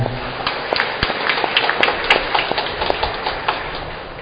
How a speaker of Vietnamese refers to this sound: Xin cộng đoàn chúc mừng và cảm ơn bằng một tràng vỗ tay.